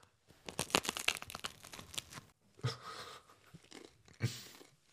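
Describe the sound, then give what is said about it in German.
Crunching as crusty bread is bitten and chewed, a dense burst of crackly bites followed by a few separate louder crunches, with no talking. “So, da haben wir noch ein bisschen ASMR jetzt mit dem Podcast, wenn es gleich so knuspert.”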